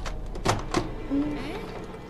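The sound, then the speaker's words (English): A locked door's handle is jiggled hard, giving three or four quick metallic rattles and thunks, followed by a faint murmuring voice as the shaking stops. “Why doesn't this door open?”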